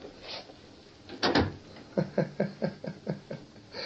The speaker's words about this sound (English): Close the door.